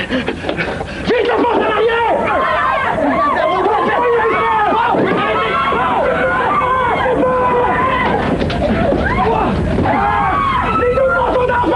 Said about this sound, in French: C'est du monde qui crie et on comprend « fuck out ». C'est encore moins clair que dans la cassette.